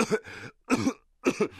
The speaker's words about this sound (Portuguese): É só uma tosse. Já durou uma semana. Em breve isso passa.